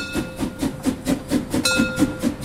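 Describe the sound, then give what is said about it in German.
An old steam train, the Molly resort railway at Bad Doberan, Mecklenburg, which carries tourists through the small town to the Baltic Sea, puffs loudly in a steady, quick rhythm of about ten chuffs, each a breathy burst, with a thin, steady hiss and whine running underneath. No one speaks. “Nur ein paar Schritte entfernt hält die alte Bäderbahn, der Molly, um Touristen mit lautem Schnaufen mitten durch die kleine Stadt an die Ostsee zu fahren.”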